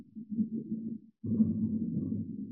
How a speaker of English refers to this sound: Can you hear the thunder? Yes. Oh, yes. I got it. Listen.Listen, everybody. 啊，你们听，你们听，这是毁灭之云的声音。